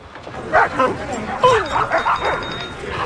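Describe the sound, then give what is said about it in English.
Several dogs bark and yip in quick, irregular bursts at Rancho dog park over a busy outdoor background with murmuring voices, the barks moderately loud. “What dog park are you at?”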